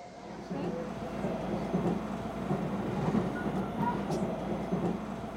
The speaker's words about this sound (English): We're on the train, finally on our way to meet Joe.